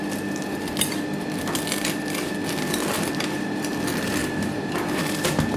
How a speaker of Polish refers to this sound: Jest to chleb pszenny na zakwasie żytnim. Rzadko można spotkać taki chleb, na pewno w piekarniach go nie ma. Już się u nas ustawiają po niego kolejki. Zaraz możemy go pokroić. Dźwięk krojenia takiego chleba to też jest przyjemność.